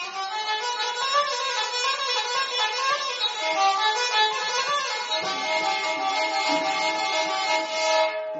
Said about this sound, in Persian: 35 ساله باشنده ولایت بغلان که فعلا در شفخانه 1000 بستر ابن سینا بستری است، با نواختن آله موسیقی غیجک معتادین دیگر را خوش می سازد.